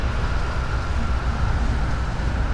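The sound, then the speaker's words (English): A steady, unbroken roar of traffic on the 680 loop interstate, heavy in the low rumble with a broad hiss on top, holding at an even, fairly loud level throughout with no voices, while a big tractor-type mower is dragged along the side of the interstate. “The interstate is very loud today.”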